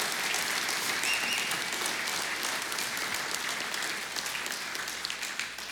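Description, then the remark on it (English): A large church audience applauds the mothers steadily, a dense wash of many hands clapping at once that holds its strength for several seconds with no voices standing out. “Come on, guys, can we give them a big round of appreciation and applause?”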